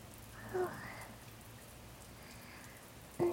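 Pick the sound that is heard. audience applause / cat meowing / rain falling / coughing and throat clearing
rain falling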